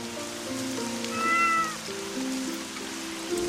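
A cat meows once, a drawn-out, rising-then-falling cry, with a steady patter of rain and low background hum continuing throughout; a nameless cat on a rainy street, sheltering from the rain in a small cage.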